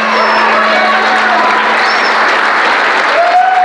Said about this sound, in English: And I had a pause because I was trying to just get out of that zone and come back to kind of like provide a voice of reason. But as I kind of slowed down to do that, the crowd started clapping.